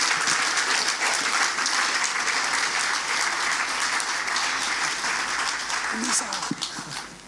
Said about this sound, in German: Kommt einmal nach vorne, damit alle euch sehen können, wer eingeschult wird. Und alle geben sie einen kräftigen Applaus für euch.